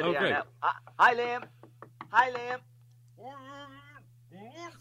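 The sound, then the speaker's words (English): A few quick morning knocks on a window by Liam Brady and Didi Haman, who knock and wave in; short sharp taps scattered between bursts of voices, with a steady low hum running underneath. “Around this time every morning, Ian, Liam Brady and Didi Haman usually knock on our window and wave in.”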